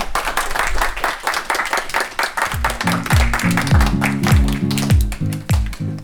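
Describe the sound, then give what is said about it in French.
A group of children from the Guiraudières school in Chauvigny clapping and applauding themselves steadily for about six seconds after an interview on self-confidence, lively, while a short rising musical jingle enters midway and plays over the applause. “Et ben vous pouvez vous applaudir.”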